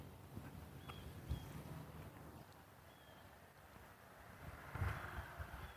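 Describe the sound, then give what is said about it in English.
A low, faint rumble of a car passing far off on a breezy morning, swelling slightly toward the end over quiet outdoor air with a few thin distant chirps of blue jays. No one speaks. “Occasional sound of a car.”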